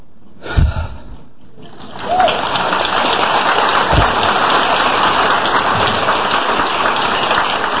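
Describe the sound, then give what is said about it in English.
An audience breaks into applause after a brief thump, a dense, steady crackle of many hands clapping that holds at an even, fairly loud level to the end, with no voices over it. “That's funny, I wasn't waiting for you to clap, just the screen went blank for a second.”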